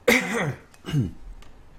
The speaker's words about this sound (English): Sorry about this cough, guys.